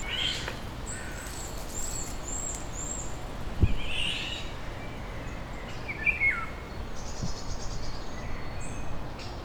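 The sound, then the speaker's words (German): A woodpecker calls in a forest, giving a few sharp, harsh high notes, with an isolated sharp knock and other faint bird chirps over a steady background hiss. “Ein Specht.”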